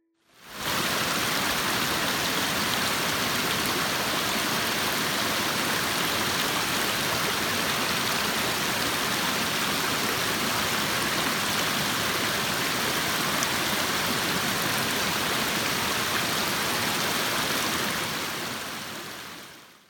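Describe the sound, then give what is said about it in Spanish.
A river flows with a steady, even rush of water lasting about twenty seconds, a dense hiss across high and low tones that fades in and out, with no voices. “El sonido sorpresa de hoy fue el de un río.”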